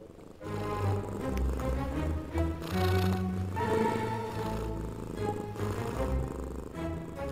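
A cat purrs steadily, a continuous low rumbling that pulses gently with each breath for several seconds, with no voices around it. The cat is Čića, a mostly white male cat with grey on a paw and near the ears. He purrs once he has settled comfortably.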